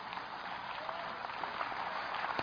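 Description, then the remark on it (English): A crowd applauds steadily, many hands clapping at once in a dense, even patter without pause. “Go ahead and clap.”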